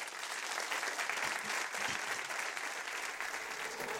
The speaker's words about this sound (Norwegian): Kjøp boka til Thor Gotaas, kjøp kalendret fra Gryner fotball, og gi en stor applaus til, til Thor.